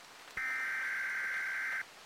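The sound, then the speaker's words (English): An emergency weather alert buzz plays on a weather radio at around 2 a.m. during intense rain, as a tornado warning is issued: one loud, harsh electronic tone held at a steady pitch for about a second and a half, over faint background hiss. “The same rattling buzz screech was playing again, this time on loop, meaning stuff was getting serious.”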